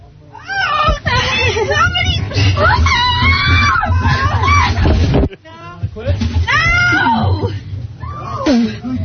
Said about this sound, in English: She's screaming like crazy. We don't have a microphone on her.